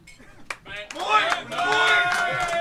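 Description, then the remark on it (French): An audience in a hall bursts into applause to show who has come before, scattered claps at first swelling into steady, loud clapping mixed with excited shouts and cheering voices. “Par applaudissement, ici dans la salle, qui est-ce qui est déjà venu ou jamais venu?”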